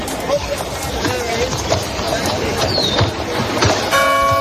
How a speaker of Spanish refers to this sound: Casi 8 millones de personas escuchan las campanas o escuchan los ruidos propios de los pueblos en España.